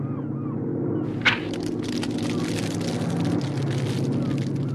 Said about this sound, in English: It's a search plane. I hope they see us.